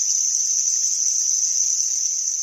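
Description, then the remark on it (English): A steady, high-pitched chirring drone of groups of menhaden and herring releasing swim bladder gas, recorded underwater in Tampa Bay by a glider robot, sounding much like crickets, continuous and even in loudness with no voices. “The sounds were most likely groups of menhaden and herring releasing gas from their swim bladders.”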